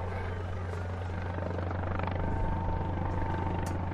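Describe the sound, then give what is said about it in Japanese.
A red Kyoto City Fire Department aviation unit helicopter carrying medical supplies approaches to land on the flight deck of the escort ship Hyuga, with a steady, heavy rotor thrum and engine whine that hold loud and constant throughout, with no voices present. “今私の目の前に、京都市消防航空隊所属のヘリコプター、赤いヘリコプターがですね、医療物資を搭載した赤いヘリコプターが間もなく日向に着艦いたします。”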